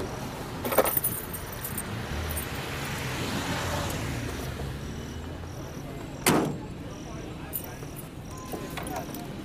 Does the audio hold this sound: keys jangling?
yes